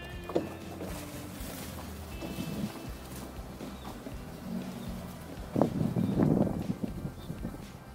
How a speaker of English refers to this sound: And now the boat is ready for its first test on the water.